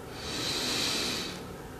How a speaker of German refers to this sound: Wir nehmen alle zusammen einen tiefen Atemzug und atmen ein